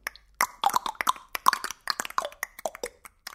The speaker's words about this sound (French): Pour réussir cette magnifique soupe de son, il me faut un peu de claque-langue.